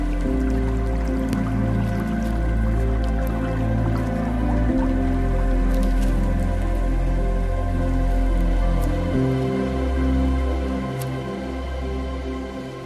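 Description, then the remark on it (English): Water gurgles and drips steadily as a small stream spills over a little waterfall in the arid Judean wilderness in mid-summer, continuous, with a sustained tonal drone underneath; no one speaks. “imagine being in a place so arid as the Judean wilderness and then seeing a waterfall with a stream like this gurgling through.”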